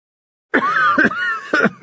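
A person coughs three harsh, rough bursts in quick succession, loud and unaccompanied after a brief silence.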